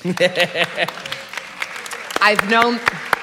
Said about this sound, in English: I think they're clapping for you